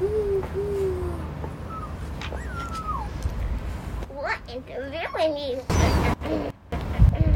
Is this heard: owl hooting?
yes